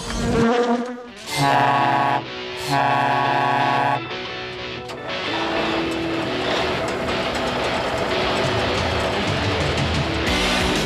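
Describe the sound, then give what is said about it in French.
A loud bee buzz drones in bursts, breaking off briefly before resuming, then settles into a steady, continuous hum against a busy background. “Il y a une abeille.”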